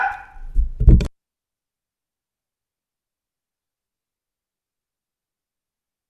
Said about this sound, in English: Dogs here, folks. Sorry, folks.